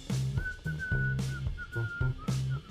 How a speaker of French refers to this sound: Et tandis qu'il déambulait dans les rues de Las Vegas pour rejoindre son complice, il sifflotait un air joyeux.